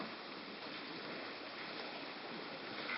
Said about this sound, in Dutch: Als dat water vloeit, heb je gezien die druppeltjes? Al die druppeltjes.